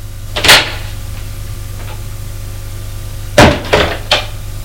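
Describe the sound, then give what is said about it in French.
A door clunks once as a father comes home and enters the room, then after a pause comes a cluster of knocking and latching thuds over a steady low hum, with no one speaking. “C'est son père qui est rentré. Il va à elle.”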